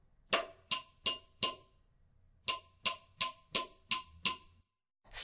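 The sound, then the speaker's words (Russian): Sharp taps on a plate ring out in two bursts, four quick even knocks, a pause, then six more, each with a bright ceramic click and short ring, clear. “Журавль стук-стук носом по тарелке.”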